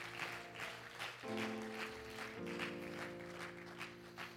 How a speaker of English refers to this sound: Praise the Lord. Can we give the Lord another hand clap of praise tonight because he's worthy?